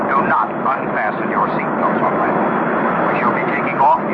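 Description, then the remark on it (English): An airplane coming in to land, its engines a steady, dense roar that holds level throughout, with several voices talking and calling out over the noise. “This is your captain. We are about to land.”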